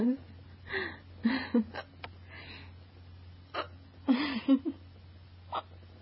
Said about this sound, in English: But, my hiccups are so crazy.